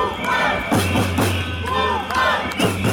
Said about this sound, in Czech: Na početku emisije idemo u Niš, gde se na poziv studenata u najvećem gradu na jugu Srbije okupilo više desetina hiljada demonstranata.